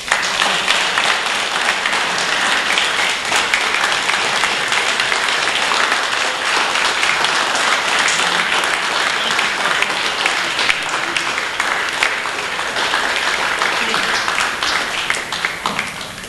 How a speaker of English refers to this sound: So everybody, give him another round of applause.